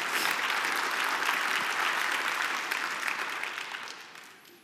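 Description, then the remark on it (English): A church audience bursts into steady, sustained applause for a child's baptism, a dense wash of many hands clapping at once that holds strong before gradually fading out at the end. “That you can clap for that.”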